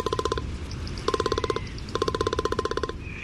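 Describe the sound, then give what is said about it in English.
A magnificent frigatebird's display call: three bursts of rapid, evenly spaced rattling pulses with a hollow, mid-pitched tone, separated by brief pauses, over a low rumbling background. “But then there's the magnificent frigate bird.”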